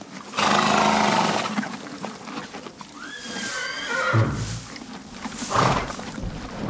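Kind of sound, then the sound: animal, horse neighing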